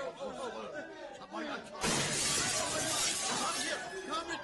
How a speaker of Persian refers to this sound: حمله کردن مردم جناب قنسول. مردم شیشه قنسول خانه رو شکستن.